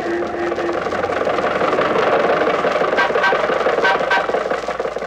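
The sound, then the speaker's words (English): Jack Benny's old Maxwell car engine chugs along steadily on Hollywood Boulevard, holding up traffic, a loud, continuous rumbling drone with a rattling, mid-pitched hum and no voices. “And now, ladies and gentlemen, this being the height of the Christmas shopping season, let us leave the studio and journey two blocks north to Hollywood Boulevard, where we find Jack Benny's Maxwell cruising along and holding up traffic as usual.”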